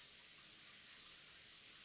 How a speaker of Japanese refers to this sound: わかりました、シャワー止めてください。